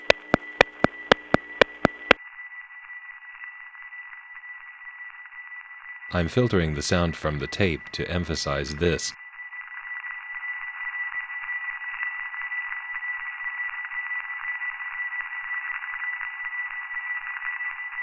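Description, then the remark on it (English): A steady, narrow-band hum with a faint whine from a telephone central office (the 3-5 office) runs throughout, with a quick series of sharp ticks at the start and a short stretch of speech in the middle. “This 3-5 office has a distinctive sound which you're hearing under the ticks right now.”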